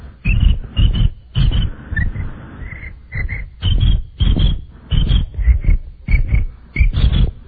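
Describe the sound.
A voice imitates a cricket that jumps down from on top of a bag and gets covered by it: about a dozen muffled, rhythmic chirping bursts, each a low buzzy rumble topped by a thin high whistle, fairly loud and steady throughout.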